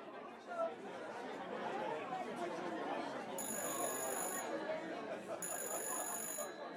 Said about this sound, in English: Just as Marzouk completes the tale, the phone rings once more. And this time, someone finally hears it.